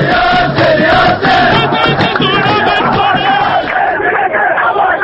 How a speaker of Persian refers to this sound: آهنگ نداشتیم ولی دیگه تشویق برای بچه های صنعت نفت رو داشتیم.